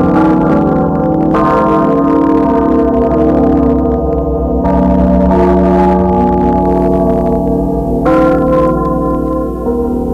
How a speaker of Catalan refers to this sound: mentre la mà s'apagava sa tempesta, mentre se rompien els llamps i se calmaven ses ones, just en aquell moment, ses campanes de Lluc tocaren miraculosament, tal vegada per anunciar el fet sobrenatural que sa Mare de Déu estava realitzant.